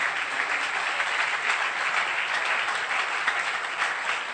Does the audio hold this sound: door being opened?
no